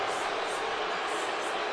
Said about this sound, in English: As you can hear, the fans are giving it to the refs.